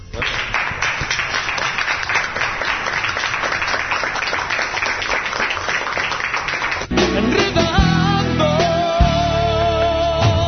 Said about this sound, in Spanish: Pues finalizamos este mini ciberchoco desde el choco de Troncha, que desde luego, pues lo dicho, pues agradecidos de lo bien que hemos pasado, y ya solo os pido que le demos un aplauso a Troncha.